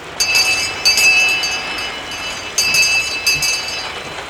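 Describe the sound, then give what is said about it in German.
A small bell hanging at the door of what looks like a drugstore, its shutters down, is jangled in several quick bursts, its bright, high-pitched ringing tones lingering between shakes over a steady background hiss. “Hier hängt eine Glocke. Ich bimmle mal.”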